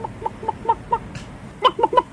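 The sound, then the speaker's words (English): A voice imitates a chicken's clucking: four evenly spaced short clucks, then a louder quick run of three more, clear with nothing else around it. “It's a girl with no bra on over there trying to make a chicken sound.”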